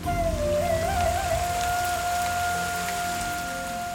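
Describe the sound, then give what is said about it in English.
Steady rain pours down in a continuous hiss of patter, fairly loud, with a sustained droning tone held underneath throughout. “Sita sprinted out into the rain.”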